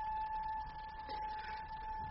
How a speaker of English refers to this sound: Listen. What is it? Well, listen. A train. Yes, but it's going fast, Ollie, just like all the rest of them. It's going fast. No. It's stopping, I tell you. It's slowing down. You're right, Ollie. It is stopping. It's pulling into the platform.